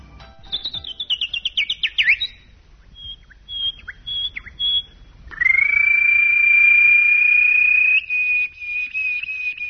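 A bird sings clearly: a quick run of falling chirps, a few short separate tweets, then a long, steady high whistling note that carries to the end. No voices.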